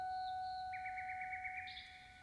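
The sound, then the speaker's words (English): A recording of a nightingale heard among the trees of Rome, played by Respighi at the end of the third movement of The Pines of Rome, sings a quick run of bright, warbling trills that rise into a higher whistled note, fairly faint, over steady sustained background tones with no talking. “And at the end of the third movement of The Pines of Rome, Respighi played a recording of a bird that he had actually heard among the Roman trees, a nightingale.”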